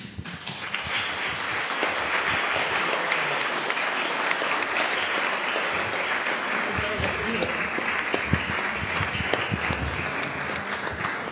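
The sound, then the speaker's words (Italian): Sustained audience applause after the presentation of a book on making audio and video podcasts, recorded as a sample for post-production. A dense, steady wash of many hands clapping at an even loudness for over ten seconds, with scattered sharper claps standing out and no voices on top. “Questo applauso lo campioniamo, che dopo lo usiamo per la post-produzione, gli mettiamo del sottofondo di applausi quando...”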